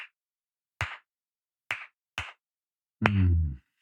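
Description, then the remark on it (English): A speaker impersonates a professor applauding: a few sharp hand claps spaced unevenly, a sparse mock applause; the last clap runs into a brief low, buzzing voiced sound. No speech. “Applauded.”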